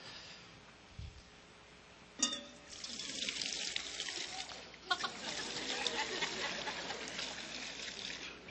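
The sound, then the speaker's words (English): Water is poured steadily into a baptismal font during a baptism at a United Methodist church, a continuous splashing trickle that swells and settles for several seconds, fairly quiet, with a soft knock before it begins. “The symbol of baptism is water. And so we have some water up here.”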